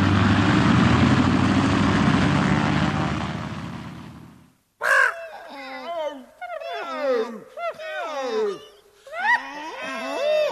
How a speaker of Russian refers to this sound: Скорее, скорее, самолет отлетает. Слышишь, уже завели моторы.